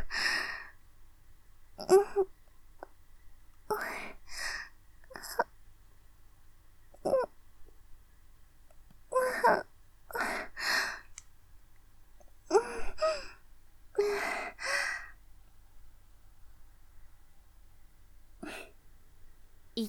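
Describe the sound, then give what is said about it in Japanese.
Aroused, heavy, breathy exhalations and short sharp gasps come in uneven bursts, about a dozen over twenty seconds, with quiet pauses between them. It is a single voice, moderately loud, and no words are spoken. “射精したいリスナーさんへ感じている息遣いをお聞かせください。”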